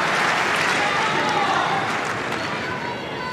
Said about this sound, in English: She's ready. The noise of the crowd subsides and Sabalenka's first serve clips the tape and deflects wide, one bounce and into the crowd.